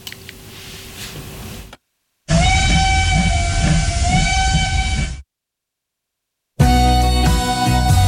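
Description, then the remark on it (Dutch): A loud, sustained steam whistle, like a steamboat's, sounds for about three seconds with a steady, slightly wavering tone, set between brief stretches of other noise separated by silence. “Ja, dat, ik weet niet wat er misging, maar ik had, er kwam opeens een fluit voorbij, een stoomboot of iets dergelijks.”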